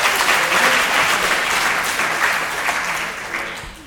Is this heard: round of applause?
yes